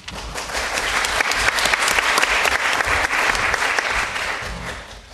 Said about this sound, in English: Thank you very much for that. I'm not used to getting a round of applause when taking a stage.